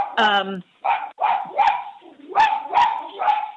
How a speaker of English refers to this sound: And I'm sorry, the dog is barking.